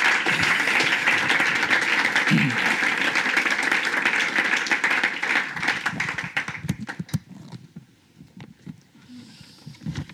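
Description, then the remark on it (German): A crowd breaks into sustained applause in honour of God, dense clapping filling the air for several seconds before thinning out into scattered, fading claps. “Ein Applaus zur Ehre von Gott, wenn wir das machen.”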